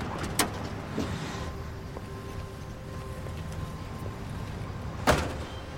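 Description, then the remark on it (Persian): A car door clicks open near the start as a person gets out of the car, then a low idling rumble with faint tonal hums carries on before a sharp door slam near the end. No one speaks. “از ماشین پیاده میشه”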